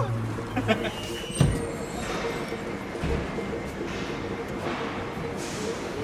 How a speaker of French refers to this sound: Là, il y a des engins, des chariots élévateurs qui chargent des camions, des semi-remorques.